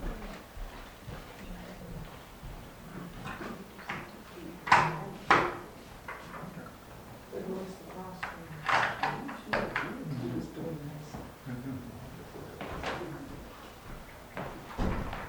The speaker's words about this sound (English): Let's shut the door.